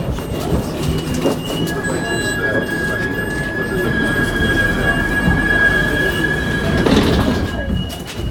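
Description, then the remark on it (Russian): A low-floor tram with a ramp, route 28 toward Sokol metro, rolls steadily along its rails with passengers aboard, a continuous rumbling hum with a thin high-pitched wheel squeal drawn out across the ride, swelling slightly louder near the end, with no talking. “Ну вот мы благополучно сели в нужный нам трамвай.”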